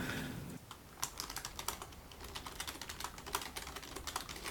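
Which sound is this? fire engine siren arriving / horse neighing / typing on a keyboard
typing on a keyboard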